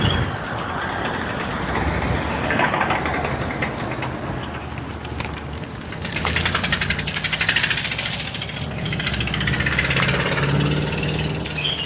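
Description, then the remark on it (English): A truck engine runs steadily with a rough, rhythmic knocking mixed into its low rumble, swelling and easing in loudness over several seconds. “Truck has a bit of a knock in it.”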